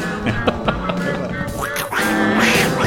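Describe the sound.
Voices imitate duck quacks in a nasal, squawking stream, with bursts overlapping one another, loud, running continuously for about three seconds.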